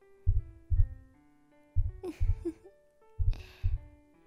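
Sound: heartbeat sound effect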